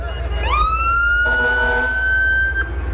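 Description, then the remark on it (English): A fire engine siren, from engine number seven passing in a Fourth of July parade, winds up quickly to a loud, steady high wail, with a brief second blaring tone overlapping midway and a low engine rumble underneath. “And we have engine number seven coming”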